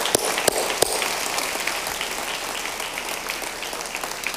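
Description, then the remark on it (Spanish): A church audience gives an offering of applause together, a dense, steady wash of many hands clapping, with a few sharper individual claps standing out at the start before the sound evens out and continues. “¿Por qué no damos una ofrenda de palmas todos juntos, hermanos queridos?”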